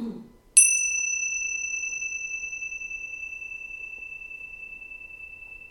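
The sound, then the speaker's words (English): A single bell is struck once, ringing out a clear, sustained tone that slowly fades over several seconds, with a faint voice murmur just before the strike. “And the bell, moving through time.”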